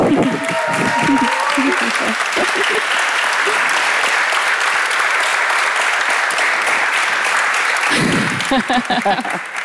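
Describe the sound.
An audience claps loudly and steadily for several seconds for a guest artist, a dense wash of applause, with a voice speaking over it at the start and again as the clapping fades near the end.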